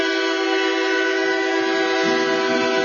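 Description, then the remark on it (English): The Pragati Express train sounds one long, loud, steady horn blast lasting the whole moment as it starts moving after getting clearance, while a low rumble of the train beginning to roll grows underneath it. “In fact, it is moving right now.”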